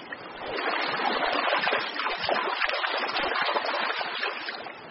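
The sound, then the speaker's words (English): Continuous splashing and churning in shallow river water as trout spawn, the female digging a trough with flicks of her body while the male fertilizes the eggs, steady for the whole stretch with no voices. “The female digs a trough with sinuous flicks of her body, and the attending male fertilizes the eggs as they are laid.”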